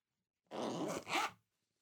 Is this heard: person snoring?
no